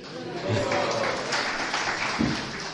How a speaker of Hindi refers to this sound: Thank you very much. अब आप लोग ताली बजा रहे हैं और मैं तब ताली बजाऊंगा जब देखूंगा कि आप सब ये ब्रह्म संगीता सही रूप से पढ़ रहे हैं।